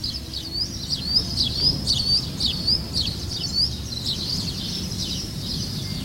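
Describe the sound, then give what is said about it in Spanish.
Several birds chirp and trill in a busy, overlapping chorus of quick high notes on a morning in the Plaza de San Miguel, the church square, with a low outdoor rumble of traffic or wind underneath. No one speaks. “Bueno, pues el canto de los pájaros nos acompaña esta mañana desde la Plaza de San Miguel, desde la Plaza de la Iglesia”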